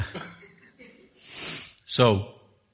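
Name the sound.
sneeze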